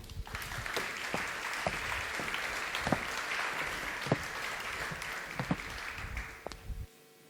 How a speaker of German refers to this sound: Einen großen Applaus bitte.